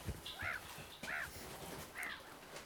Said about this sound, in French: Regarde. Les mouettes se marrent. Elles ont raison.